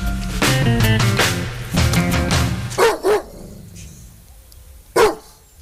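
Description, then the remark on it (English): Dave Pearce imitates a Doberman barking, loud: a stretch of gruff, drawn-out woofs, then two quick sharp barks and a single last bark after a short pause. “It was a Doberman, of course.”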